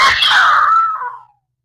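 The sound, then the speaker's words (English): A woman's loud, sharp scream of fright rings out once, holding for about a second before trailing away into silence. No one talks over it. “Yeah, I screamed.”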